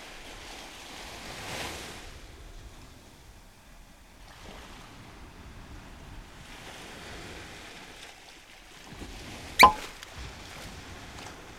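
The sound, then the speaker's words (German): Sea waves wash in with a steady hiss, swelling into broad surges every few seconds. One wave near the end breaks with a sharp, loud crash. No voices. “Wer hat gerufen? Das Meer, wohl.”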